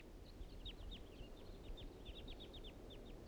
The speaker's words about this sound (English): The wild birds are coming back. Now they're flying around the clearing.